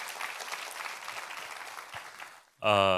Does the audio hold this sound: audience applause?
yes